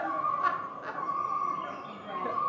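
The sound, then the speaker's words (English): A common loon calling just after taking off from a pond: a long, wavering, mid-pitched wail held steadily through the whole stretch, with a couple of brief breathy bursts early on. “And he starts calling him.”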